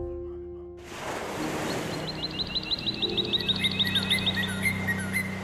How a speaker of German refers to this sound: Geräusche von ewig rollenden Wellenbergen.